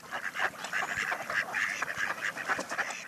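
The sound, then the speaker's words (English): A flock of male ducks calls continuously, with overlapping nasal quacks and short honking notes repeating in quick, uneven bursts at moderate volume, with no voices. “And many male ducks turn into downright dandies to attract a mate.”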